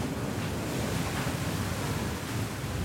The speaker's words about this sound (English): Rain, wind, maybe too much Uripan.